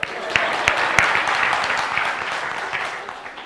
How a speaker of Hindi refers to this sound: सबसे पहले तो मैं ये बता दूं कि आप लोग सब जो यहां पर उपस्थित हो, बधाई देना चाहूंगा कि आपके अंदर सत्वगुण प्रधानभूत है. हाँ, आप लोगों के लिए तालियां बजाई बजाई बजाई.